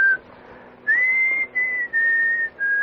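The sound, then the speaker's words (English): A man, a composer, whistles a short tune of his own in clear, sustained notes with brief gaps between phrases, fairly loud, with no talking over it. “And we will put you down then as a composer who whistles his own tunes.”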